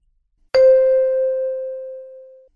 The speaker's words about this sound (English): Mom, what do you think of this ringtone? I don't like it. I'll change it for you. That's very kind of you.